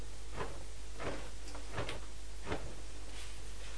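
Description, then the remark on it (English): A door being opened to shake crumbs off a shirt and let the cat Purdy in, heard as a handful of short clunks and rattles spread a second or so apart over a steady low background hum, with no one talking. “Come on, let's take your shirt off, and if Mummy takes that to the door and shakes that as well, because that's covered in crumbs, then we can let Purdy in at the same time.”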